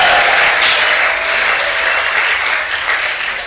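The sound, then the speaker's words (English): Loud, sustained clapping from a large audience fills the whole stretch, dense and steady, with a roar of crowd voices mixed in and tapering slightly toward the end. “that in God's sight you are accepted like Christ was accepted, I think you will clap better and you will shout much bigger.”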